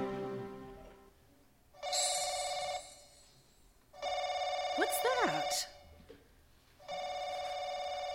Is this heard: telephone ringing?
yes